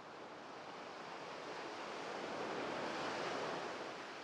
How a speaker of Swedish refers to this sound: Utanför är vågorna flera meter höga